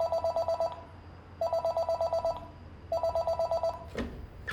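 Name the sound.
desk telephone ringing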